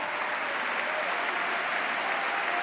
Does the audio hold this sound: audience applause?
yes